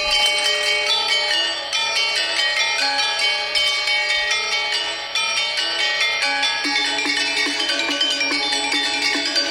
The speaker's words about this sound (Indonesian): Selain serangkaian gending-gending Jawa, konser itu juga menampilkan ensemble gamelan Bali dengan sederet lagu, termasuk lagu Hujan Mas yang dimainkan pada gamelan Gong Kebiar.